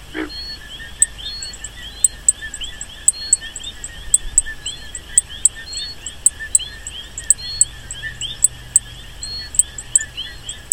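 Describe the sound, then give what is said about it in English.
A nighttime chorus of high, sharp chirping calls repeating steadily, several voices overlapping over a constant shrill insect-like hum, with no talking. The calls are of plains coqui frogs in a field recording from a permanent station in Sabana Seca, Puerto Rico, made on July 7, 2013. “In Sabana Seca, we established the permanent station there because there was a new species of frog, a coqui. It's called the plains coqui.”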